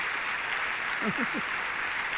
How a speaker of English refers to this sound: And maybe you can hear the applause here. Our brethren here are applauding you.